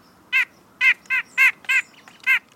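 Six short, nasal honking calls of a white-breasted nuthatch, evenly spaced and fairly loud, with no voices over them against a quiet background.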